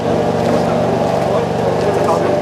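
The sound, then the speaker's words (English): A steady, unbroken engine buzz from an Israeli military drone circling over a neighbourhood, a loud droning hum with a layered, motor-like tone that holds constant throughout. “It's eerily quiet here, but there's an ever-present buzzing noise.”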